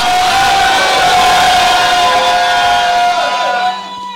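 A crowd of voices shouts and cheers together in a loud, sustained roar with a high held cry riding on top, then trails off and thins out near the end.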